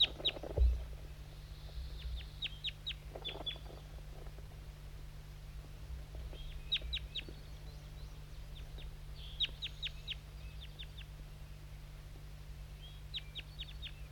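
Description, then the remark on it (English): Birds, mostly the two labeled 5'3 and J8, call in scattered bursts of short, high, sharp chirps, several notes at a time with pauses between, over a steady low hum and no talking. “This is mostly 5'3 and J8 calling.”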